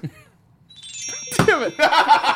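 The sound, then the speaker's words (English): A single loud sneeze bursts out after a quiet moment, its voiced gasp dropping into a sharp breathy blast, followed by lingering noisy rustling. “Oh, bless you”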